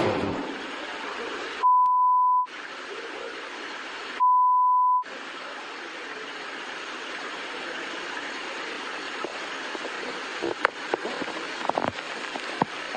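Two long, loud electronic beeps, steady single-pitched tones about two seconds apart, cut sharply over a continuous hissing, rumbling background like rain or a moving train.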